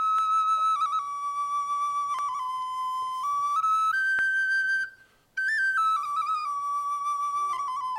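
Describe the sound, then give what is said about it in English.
A person whistles a clear melody that imitates a songbird's song, gliding between steady pitches, with one brief pause partway through and no talking. “He had a round, slick head, small little brown beady eyes, and a long, pointy beak that he would whistle and sing beautiful songs.”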